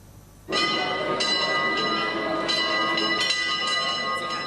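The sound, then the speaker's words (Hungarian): A large centuries-old school bell at the Bolyai Farkas Lyceum in Marosvásárhely rings out in repeated, sustained peals, calling former students to a reunion, its rich overtones hanging and blending together as each stroke swells over the last. Loud and continuous, with no voices. “Az évszázados harang hívó szavára a világ minden tájáról érkeztek öreg diákok a marosvásárhelyi Bolyai Farkas Líceumba.”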